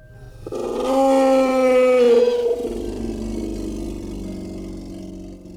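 A long, mournful creature howl with a steady, drawn-out tone that swells in, holds, then slides lower and trails on, at first far away and slowly coming closer. A single sustained call, fairly loud, with no voices, heard by three men standing outside their tents.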